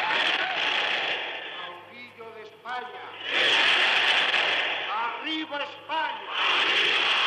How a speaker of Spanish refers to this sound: Luego los gritos de Franco, Franco, Franco atronan el espacio.